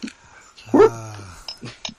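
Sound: dog barking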